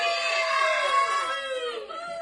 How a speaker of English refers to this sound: The studio is full of people, as you can hear, people in the background screaming and carrying on as they are wont to do.